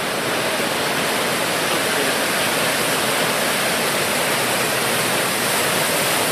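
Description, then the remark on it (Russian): A constant, loud roar of breaking ocean surf, dense and hissing without pause, filling the whole stretch with no voices. “А вот новая волна пошла, смотри.”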